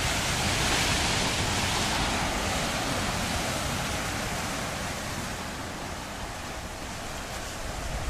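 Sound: ocean waves and surf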